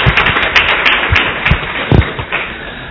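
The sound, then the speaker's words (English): An audience applauds steadily to welcome a guest speaker, many hands clapping at once in a dense, crackling wash with a few sharper individual claps poking through. The applause holds at a fairly even loudness and no one speaks. “Please, another warm applause for welcoming.”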